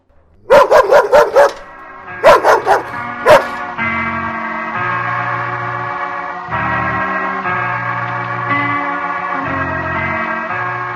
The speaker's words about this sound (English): There's nobody here but me and the three dogs. Oh, yes, three. We have a new one now. A nasty, squalling little mongrel. I don't think it'll last long, though. The other dogs don't like it.